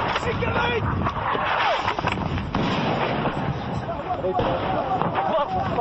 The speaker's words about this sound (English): Three explosions, 50 yards away. So, as we were doing the interviews, incoming round just landed in this area.